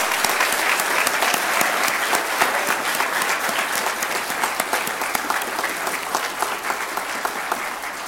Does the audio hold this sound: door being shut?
no